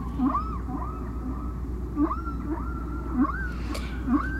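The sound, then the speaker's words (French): Recorded whale song from track 4 of a record, rising and falling in a repeating sequence of moans and upswept cries, with low pulses recurring about every second, distant and echoing over a steady underwater rumble. “on va écouter un autre chant du disque de Penn et McVeigh, la plage 4, la baleine distante”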